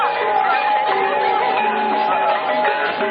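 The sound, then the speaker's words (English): Loud, continuous ringing of many gongs in the gong section of a parade, their overlapping metallic tones forming a dense, steady wash over a murmuring crowd, with no break in volume throughout. “We're in the gong section now. It's a little loud, and pretty soon we're approaching the parasol section at the head of the parade.”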